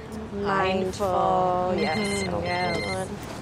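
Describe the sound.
A mobile phone rings with a bright, melodic ringtone, its tonal notes repeating over a few seconds, fairly loud, with some voice-like sound underneath. It is an incoming call from an unknown caller in Belgium, and the phone is pulled out of a bag.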